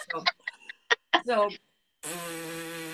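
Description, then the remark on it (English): A few short vocal sounds, then a steady, raspy lip buzz about a second long, the lip buzzing used to play a French horn, made without the instrument. It's fairly loud, with a rich buzzing tone. “French horn is just something that really amplifies and resonates the buzzing that you're doing with your lips.”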